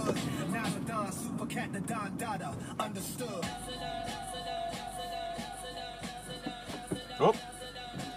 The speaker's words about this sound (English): All right, box truck, you go ahead and drive. I won't pull out until you pass. How about that?